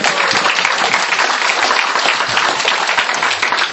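An audience applauds steadily in honour of Jayananda, a saint in the Hare Krishna tradition. A dense, even wash of many hands clapping stays loud from start to finish with no voices on top.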